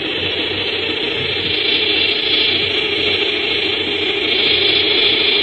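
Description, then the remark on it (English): A short-horned grasshopper or locust stridulates by scraping a tooth on the tibia of its hind leg along a ridge on its wing. The result is a steady, dry, hissing buzz that holds without pause for the whole few seconds, loud and even, with no voices over it. “The sound of a short-horned locust or grasshopper. And he produces it in a different way, also by stridulation, but he uses one of the teeth on the tibia, on the hind leg, as a scraper, and he scrapes it along a ridge on the wing, which is the file”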